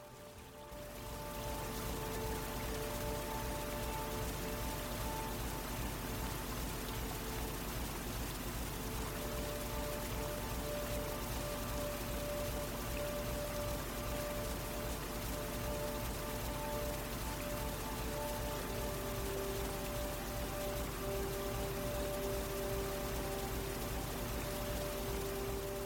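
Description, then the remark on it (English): A steady, dense roar of water in a wide river rushing and tumbling over large boulders, fairly loud, continuing without a break for the whole stretch with no voices. “Water tumbles over large boulders.”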